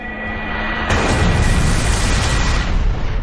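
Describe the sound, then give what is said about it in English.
A loud, explosive cannon blast from a video game, the move Lunar Cannon used by the foe Cabaret against Symphonid, erupts abruptly, a broad roaring burst that sustains with crackling energy for a couple of seconds before easing off, with no voices present. “Foe Cabaret used Lunar Cannon.”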